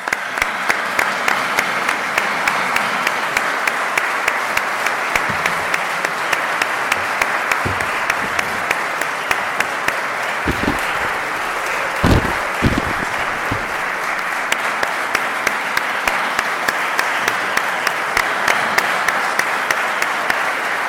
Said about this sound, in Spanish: Muchas gracias y un fuerte aplauso